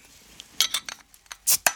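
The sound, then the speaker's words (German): Glasses clink together in a toast, a quick irregular run of several bright, ringing taps, with no voices. “Prost. Prost.”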